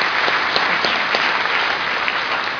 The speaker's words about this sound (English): You know, I timed this, and it's going to really be off if we keep having these applause.